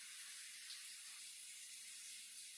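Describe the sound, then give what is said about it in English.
Steady, continuous hiss of shower water running and spraying, an even rushing noise that holds without pause for the whole stretch, heard alone with no voices. “That's fucking confusing for you to come in while I'm taking a shower and then tell me you like me all of a sudden.”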